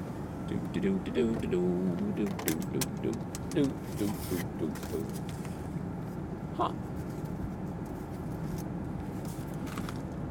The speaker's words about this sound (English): One moment, I'm getting my mail.